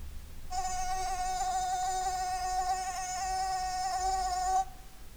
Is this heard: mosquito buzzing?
yes